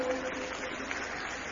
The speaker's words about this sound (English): If you are clapping, do it well.